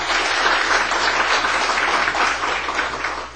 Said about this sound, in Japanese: それでは、受洗者のお二人に前に来てください。4名の方を、皆さんご紹介したいと思いますので、拍手を持ってお迎えしたいと思います。